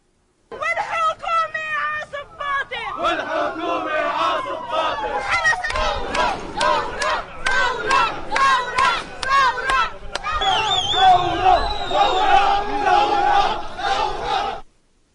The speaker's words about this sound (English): Protesters clashed with security forces near Lebanon's parliament buildings in Beirut last night.